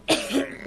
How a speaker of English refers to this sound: I'm coughing.